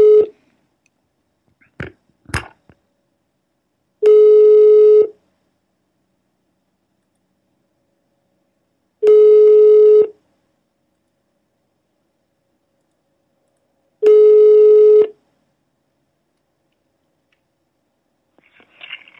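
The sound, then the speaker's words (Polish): A telephone ringback tone sounds three times, each a steady pitched buzz about a second long separated by roughly four seconds of silence, after a few brief clicks at the start, while placing a call to ask about codeine. “Dzwonimy po Codeine, kurwa.”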